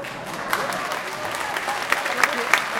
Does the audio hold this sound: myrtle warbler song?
no